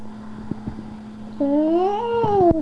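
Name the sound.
cat vocalizing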